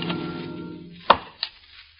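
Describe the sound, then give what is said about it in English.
Two sharp, woody axe strikes land on a log about a third of a second apart, the first louder, as log cabins are built in the wilderness, following a lingering musical tone that fades away. No one speaks. “Of log cabins built in the wilderness.”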